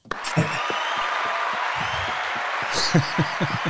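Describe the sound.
A crowd gives a steady round of applause as a guest is brought on at a show, a dense, even wash of many hands clapping for several seconds, with a few voices faintly mixed into the noise.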